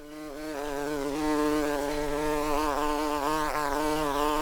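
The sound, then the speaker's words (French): A steady, dense buzzing of many bees droning around a hive, fairly loud, with the pitch wavering slightly as individual insects move about. No voices are present. “La ruche est la maison du miel et j'en suis le grand Manitou. Chez les abeilles, chacun sa mission.”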